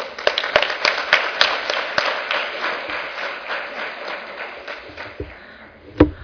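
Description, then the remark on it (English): A round of applause from a crowd for a panel: dense, steady clapping that holds strong for a few seconds, then gradually thins and fades, with a few sharp individual claps standing out near the end. “Once again, a round of applause for our panel, please.”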